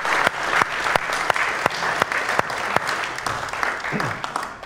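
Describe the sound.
An audience breaks into a round of applause for someone's acting skills, dense clapping filling the whole stretch with a few sharper, louder claps standing out and a faint murmur of voices underneath.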